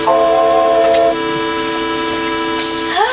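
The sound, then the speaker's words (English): The whistle of a model New York Central Hudson steam locomotive blows one long, steady chord of stacked harmonic tones, holding for about three seconds with a slight drop in level partway through before gliding upward at the end. “I got the whistle working.”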